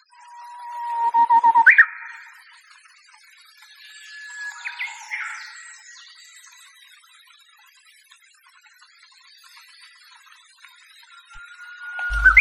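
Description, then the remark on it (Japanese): A Japanese bush warbler, recorded three hours after rain stopped, sings its clear whistled phrase: a long held note rising into a quick flourish, repeated twice with pauses and quieter bird chirps between, then a final whistle begins. “ウグイスはハルツゲ鳥としておなじみの鳥ですが、鳴き声は知っていてもその姿をご存じない人というのは意外に多いように思います。”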